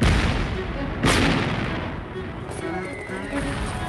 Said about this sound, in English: Then, the Americans began to improvise. Commanders defied orders and risked tearing the bottoms from their ships to bring them within 1,000 yards of the beach and use their guns to finally knock out the German pillboxes and gun emplacements.